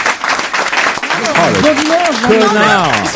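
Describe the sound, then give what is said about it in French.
A crowd claps steadily in a loud, dense wash of applause, while a man's voice speaks over it from about a second in. “Et on t'embrasse et on t'applaudit.”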